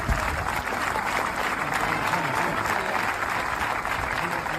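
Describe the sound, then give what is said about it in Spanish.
A large stadium crowd of football fans applauds in a sustained, dense ovation as an injured player is evacuated by ambulance from the pitch, the clapping steady and loud throughout with a roar of many voices mixed in. “El jugador hubo de ser evacuado en ambulancia desde el mismo terreno de juego entre la ovación de la afición.”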